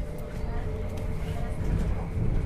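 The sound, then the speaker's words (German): A steady, low rumbling drone fills the space while riding inside a moving train in Germany, on a journey from the Ruhr area, with a constant mechanical hum and faint higher rattles throughout. “Vom Ruhrgebiet aus bin ich 7 Stunden mit dem Zug unterwegs zu unserem Treffpunkt.”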